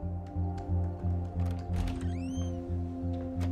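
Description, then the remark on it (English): Scattered light clicks of a woman lying in bed typing on a laptop keyboard, irregular and fairly soft, sit beneath a steady low humming tone, with a brief chirping sweep in the middle. “lies in bed typing on her laptop”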